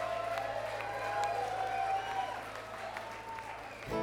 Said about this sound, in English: So please give him a large round of applause, if you would, for us, please.